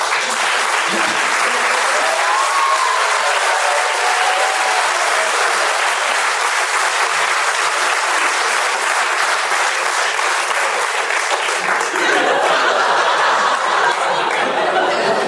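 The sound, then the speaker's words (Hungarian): Sustained audience applause welcoming the 92-year-old Dr. Csombor Dezső fills the whole stretch, a dense, steady wash of clapping with a few chuckles mixed in, swelling slightly near the end. “Kedves hallgatók, köszöntsék tapsal a 92 esztendős dr.”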